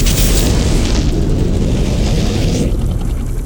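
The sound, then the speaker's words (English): A water tank explodes: a loud, sustained explosive roar, heavy low rumble with hissing, crackling bursts above, holding steady for several seconds before the upper hiss drops away near the end. No voices are heard. “Sounds like we just lost our water tank.”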